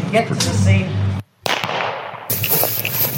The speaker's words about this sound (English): So the first sound is the bullet just missing you.